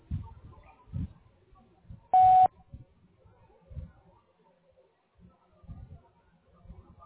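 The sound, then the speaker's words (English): A single short, loud electronic beep from a voicemail answering machine, a steady pitched tone lasting about a third of a second, with faint speech-like murmuring before and after. “Please leave your message after the beep.”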